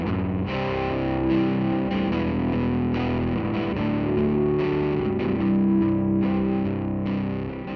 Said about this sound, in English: This song just started with a demo that was kind of like a rough, loud guitar.